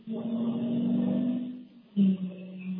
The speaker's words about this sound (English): Got some serious traffic noise there in the background.